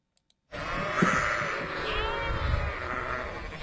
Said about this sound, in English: Yes, that is a flock of sheep. They're grazing on fields of grass. KTVN tells us it's part of the annual fuel reduction program. The sheep are meant to eat away the dry vegetation there to help prevent wildfires from sparking.